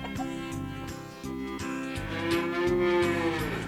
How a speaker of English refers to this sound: Cow in the kitchen, moo, moo, moo. Cow in the kitchen, moo, moo, moo. Cow in the kitchen, moo, moo, moo.